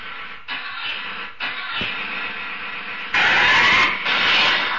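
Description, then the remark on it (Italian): Engines running in a workshop: a steady, droning mechanical roar with a humming undertone, briefly dipping twice, then surging noticeably louder for the last stretch. No one speaks. “un attimo per favore, chiudete la porta dell'officina. Un attimo solo, signora, che stanno mettendo un po' di motori qua.”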